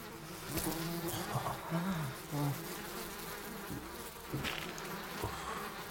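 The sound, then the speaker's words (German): A bee crawling from a beekeeper's hand onto a person's finger buzzes, its droning hum rising and dipping in pitch as it moves about, continuous for several seconds with no voices. “Mit angehaltenem Atem beobachteten die anderen, wie eine Biene von der Hand des Imkers auf ihren Zeigefinger krabbelte.”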